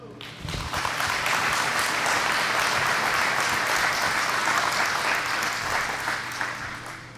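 An audience applauds steadily for about seven seconds after a group finishes singing a song, a dense, sustained patter of many hands clapping at an even, fairly loud level before easing slightly at the end.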